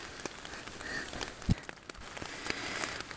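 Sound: rain falling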